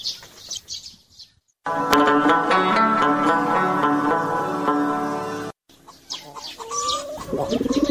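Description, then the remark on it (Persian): Loud pigeon cooing with a long, steady, drawn-out call in the middle, framed by shorter chirpy bird calls before and after. No one speaks. “چرا ای تو غمار میزنی او کبوتر جان؟”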